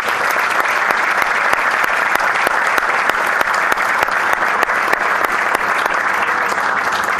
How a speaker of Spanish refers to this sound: Nos despedimos con este fuerte aplauso.